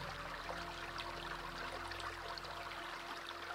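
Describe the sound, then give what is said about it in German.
Steady, continuous rush of flowing river water, a broad hiss with faint bubbling detail, even throughout with no voices. “Alles, was du an Leben zurückgehalten hast, kann jetzt freier fließen, wie das Wasser dieses Flusses.”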